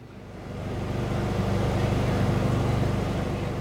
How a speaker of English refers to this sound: There's also a vehicle that looks like a large blue and white motorhome, idling on the edge of the park.